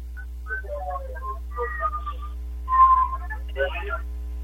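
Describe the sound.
A single short, steady referee's whistle blast restarting a wrestling match sounds midway through, clear above a murmur of voices and background crowd noise.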